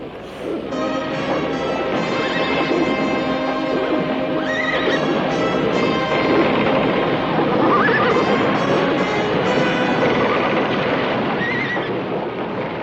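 Loud horse neighing, several whinnies rising and shaking over a dense, busy background of hoofbeats and commotion that continues steadily throughout.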